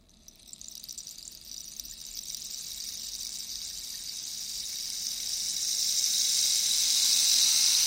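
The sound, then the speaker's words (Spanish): A rainstick, made from a cactus trunk with its own spines set inside in a spiral and filled with seeds, pours out a steady, dense patter of seeds striking the spines, like a shower of rain, a bright high hiss that swells gradually louder over the eight seconds with no voices. “Después lo llenan de semillas y cuando las semillas van chocando con las púas del cactus va imitando el sonido de la lluvia.”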